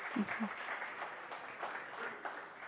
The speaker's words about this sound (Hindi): मैं इस बिल्कुल अपने लिए तालियां बजा सकते हैं आप, और जोर से तालियां बजा सकते हैं, सारे बजा सकते हैं आगे से लेकर पीछे तक।